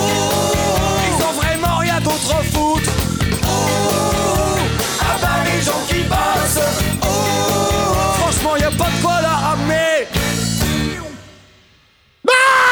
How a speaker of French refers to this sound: qui hurle au milieu de son morceau.